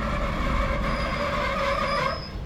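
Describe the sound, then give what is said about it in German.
A train heard from inside rumbles steadily as it slows and enters a station, with sustained high-pitched wheel squeal and metallic screeching over a low engine drone, the noise easing slightly near the end. “Der Zug wird schon langsamer. Ja, wir fahren gerade in den Bahnhof ein.”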